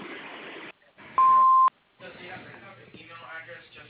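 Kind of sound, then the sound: signal or alarm, answering machine beep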